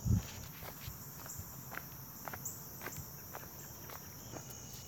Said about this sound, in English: So I'm on my nightly run through this little wooded forest near my house. And it's just starting to get dark. I can hear the crickets start coming out.